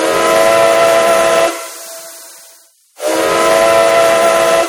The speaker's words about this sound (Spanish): Ah, escuche, va a pasar el tren. ¿Sabe que esta fue la primera línea de ferrocarril de la península? En 1848 se inauguró el trazado que unía Barcelona con Mataró